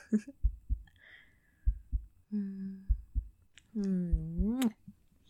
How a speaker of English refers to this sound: Knowing that me talking and, well, you'll probably hear my heartbeat too.